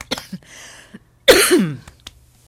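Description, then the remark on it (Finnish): A forceful cough bursts out after a few short breathy throat-clearing noises, followed by quieter rasping sounds trailing off. Nobody speaks. “Yskäisemme ja yritämme uudelleen.”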